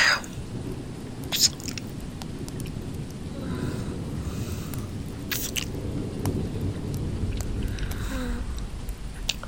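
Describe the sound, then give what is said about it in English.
A steady downpour of rain hisses throughout, with a deep, rolling rumble of thunder underneath and occasional sharper crackles of drops. No voices. “I hate the thunder so much.”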